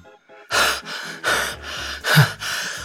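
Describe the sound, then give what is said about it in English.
Heavy, breathless panting from someone inside a car, still out of breath after running from fans: five quick, rasping breaths in a steady rhythm, with no talking. “Inside the car, … was still out of breath from running.”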